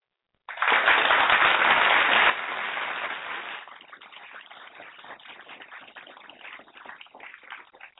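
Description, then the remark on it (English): A short burst of applause quickly thins out into slow, scattered, sparse clapping that trails on faintly for several seconds, with no one talking. “That's a sad clap.”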